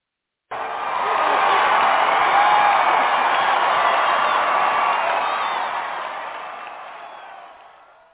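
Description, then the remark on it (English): A crowd cheers and applauds for a newly welcomed guest in a sustained, dense roar that starts abruptly, holds steady for several seconds, then gradually fades out. “Hey, so I guess you heard your cheers.”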